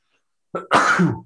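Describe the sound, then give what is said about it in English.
A loud sneeze breaks out in two quick parts: a short sharp catch, then a longer explosive blast, in otherwise silent surroundings with no talking. “It might be my first deuce sneeze.”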